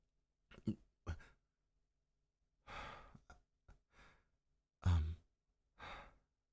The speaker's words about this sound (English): Sorry, am I breathing hard?